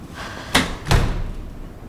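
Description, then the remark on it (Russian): A door slams shut behind someone leaving with a sharp, loud bang, followed almost immediately by a second heavier thud as it settles into the frame, then quiet. “Когда за Брэдли захлопывается дверь, она закрывает лицо руками, плачет.”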